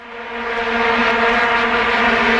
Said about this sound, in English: I wanted to put in some vuvuzela sound. Oh, into the show. Sounds like a swarm of bees.